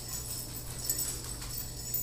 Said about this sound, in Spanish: Si escuchan una campanita por ahí, es mi perrita que va caminando y que quiere que le preste atención.